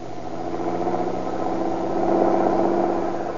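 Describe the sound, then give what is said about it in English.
A car engine rumbles steadily on an ocean highway, growing slightly louder as it draws near, then settles into a low, continuous idle with a constant mechanical hum and no voices. “Hey, here comes a car.”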